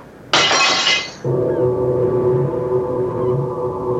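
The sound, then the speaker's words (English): A corked glass bottle is deliberately broken, shattering with a sudden bright crash and tinkling shards, followed by a low, sustained droning tone that lingers loudly afterward. “The moment the bottle broke, a great hairy black spider with a red hourglass mark on its belly burst from the sharded remains of the neck.”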